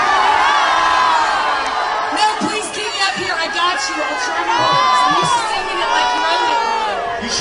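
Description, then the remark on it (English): A loud crowd shouts and cheers continuously for several seconds after being asked whether a woman should stay up on stage, many overlapping voices yelling and whooping at once, with no single voice standing out. “Well, see, mixed reviews from the crowd is all I can say is mixed reviews”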